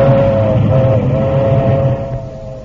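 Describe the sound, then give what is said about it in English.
A milk train rumbles past, a loud low clatter under a long steady horn-like tone that begins to fade away toward the end. No one speaks. “Oh, it doesn't bother me. Just the milk train.”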